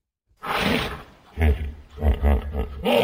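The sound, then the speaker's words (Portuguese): A hippopotamus lets out a series of deep, rumbling grunts and wheezing bellows, several loud bursts in quick succession, resonant. “Isto é um hipopótamo para aí. Boa.”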